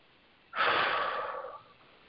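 A single deep, airy breath taken during a guided meditation, rushing in abruptly and slowly tapering off over about a second, with no talking around it.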